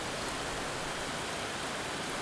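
Steady rain falling, a dense continuous hiss with no distinct drops, fairly soft and even throughout, with no voices present.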